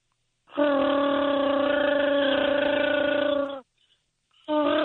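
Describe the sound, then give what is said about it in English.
A voice imitates Chewbacca's roar in a Chewbacca imitation contest: a loud, sustained, buzzing growl with strong harmonics held for about three seconds, followed after a brief pause by the start of another roar. “But now you should do your Chewbacca.”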